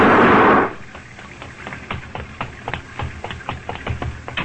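A loud, harsh blast opens, followed by a rapid string of sharp gunshots popping at an uneven rhythm, fired in the darkness by night watchman Pop Willis as a car is driven off a river barge, with no voices present.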